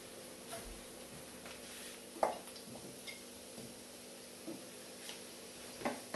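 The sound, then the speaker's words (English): Fresh ripe mango being stirred into a frying pan with spices: a few soft, scattered clinks and scrapes of a utensil over a faint, steady background hiss, with no talking. “Meanwhile, I have got some fresh ripe mango which I'm going to add now to the mix.”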